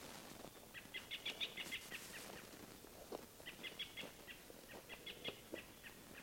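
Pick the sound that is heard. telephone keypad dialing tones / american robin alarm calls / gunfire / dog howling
american robin alarm calls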